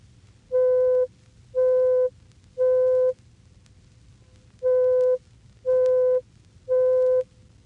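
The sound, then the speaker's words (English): A steady mid-pitched pure tone of 523 cycles per second, C5, the fifth C from the left on the piano keyboard, sounds six times, each beep about half a second long, in two groups of three separated by a short pause, over faint background hum. “By increasing it to 523 cycles per second, we hear C sub 5, which is the fifth C starting from the left on the piano keyboard.”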